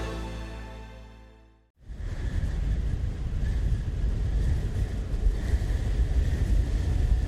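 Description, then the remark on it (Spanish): A fading tonal hum cuts off, then howling snowstorm wind in a forest, the storm at its peak intensity, takes over: a loud, steady roar with deep rumbling gusts and a thin whistle running through it, no voices. “La tormenta de nieve está en su pico de intensidad.”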